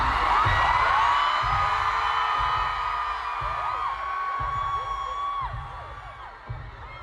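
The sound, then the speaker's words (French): A large concert crowd of fans screams and cheers continuously, many high voices overlapping in a dense, roaring wall of excitement that stays loud throughout, with a low rhythmic thumping underneath. “l'ambiance était électrique. Mais au-delà des cris de l'euphorie, une question se pose.”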